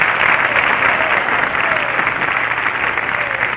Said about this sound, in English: And the most applause was got by little Teeny.